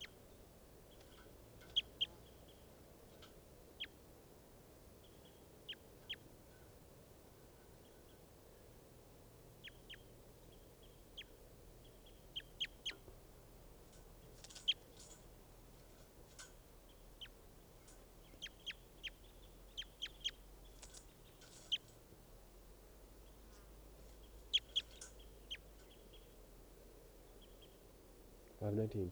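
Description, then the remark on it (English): A bird, recorded as bird 519, gives short, high chirps and clicks in scattered bursts throughout, some quick clustered runs, fairly faint over a steady low rumble. “Recording bird 519 again.”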